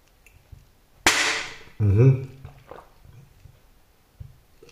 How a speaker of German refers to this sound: Flaschen machen wieder Lärm, sehr schön.